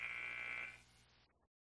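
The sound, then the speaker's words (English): A loud, steady electronic basketball game buzzer blares for about three quarters of a second, marking the start of the fourth and final quarter of a game between the Lady Eagles and Skagway, then cuts off, leaving a low hum of gym crowd noise that fades out shortly after. “So, buzzer rings.”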